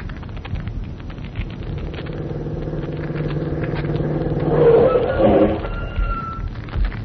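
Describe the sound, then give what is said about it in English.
A car engine turns over and settles into a steady, low hum, then revs louder and rises in pitch as the vehicle pulls away to drive to Quarry Road, with faint bird-like chirps near the end. “Come on, hop in the car.”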